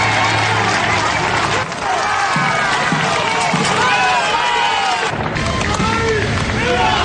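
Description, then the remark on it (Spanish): A large crowd at a parade in Spain cheers and shouts continuously as the king and queen arrive, with cries of "Viva el Rey" and "Viva España" and scattered clapping mixed into a dense, loud wash of voices throughout. “Recibimiento sin duda muy distinto al de sus majestades los reyes encargados de presidir el desfile y que han llegado entre aplausos y gritos de Viva el Rey y Viva España.”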